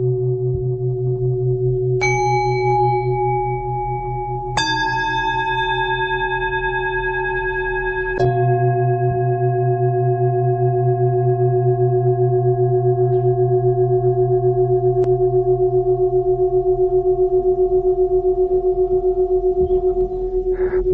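Singing bowls ring out, struck three times a few seconds apart, their bright overlapping tones sustaining over a steady, gently pulsing low hum that lingers throughout. No one speaks.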